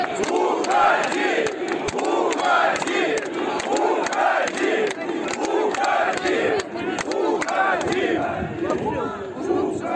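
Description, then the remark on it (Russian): A large crowd of workers shouting loudly and continuously at a speaker, many overlapping voices merging into a dense roar that holds steady for the whole stretch, with individual yells such as "Leave!" rising above it now and then, in hot weather. “Можете еще покричать.”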